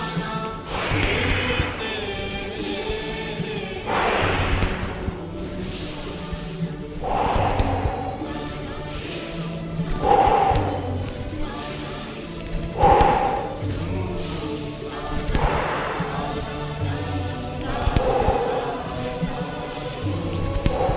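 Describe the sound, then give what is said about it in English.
Forceful breaths pushed out through the mouth during a breathing exercise with alternate up-and-down hand movements repeat in a steady rhythm every few seconds, each a short airy rush, fairly loud over soft background music. “Inhale, exhale through the mouth.”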